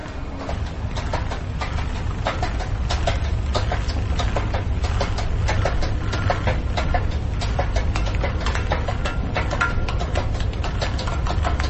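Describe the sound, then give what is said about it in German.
Variously perforated, dented cola cans roll from the top end of a staircase, clattering down in a dense, steady stream of tinny, sheet-metal knocks and rattles with a rough, rhythmic texture over a low rumbling noise. “Verschieden kleinteiligen Perforationen eingedellte Cola-Dosen rollen am oberen Ende der Treppe.”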